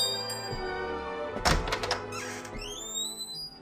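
A door sound effect from the George Tirebiter mystery: a heavy wooden door lands with a single solid thunk midway through, followed by a brief rattle and a thin rising creak, all over a steady, sustained tonal backdrop.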